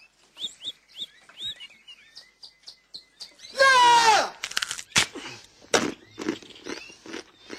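A quick run of bright little bird chirps repeats, then a loud harsh squawk bursts out, followed by scattered sharp taps and clicks with a few more faint chirps.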